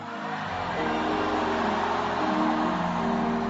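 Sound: audience shouting hallelujah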